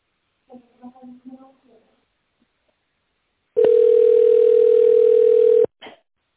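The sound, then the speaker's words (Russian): A voice talks briefly, then after a pause a loud, steady telephone ringing tone sounds while a caller is on hold with the company NeuroProject, a single mid-pitched beep lasting about two seconds, followed by a short burst of voice. “Если вы знаете внутренний номер абонента, наберите его в тоновом режиме или дождитесь ответа секретаря.”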